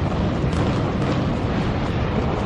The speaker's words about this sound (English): At 9:03 a.m., 17 minutes after the first impact, the second plane hit.